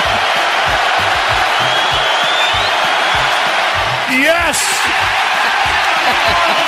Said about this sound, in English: And the crowd explodes. You know, a great broadcaster can sense the moment, and Mike Breen sensed the moment. That was the turning point of the game last night.